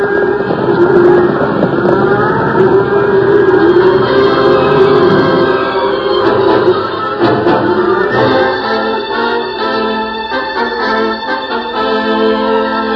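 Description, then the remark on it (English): Thunderstorm and stampeding cattle sound effects from a Lone Ranger radio drama: a loud, continuous churning roar of thunder rumbling and a cattle herd's hooves pounding in a stampede, holding steady for the whole stretch, with no voices. “Cattle ran for 10 miles before the last of the thunder rumbled away in the distance.”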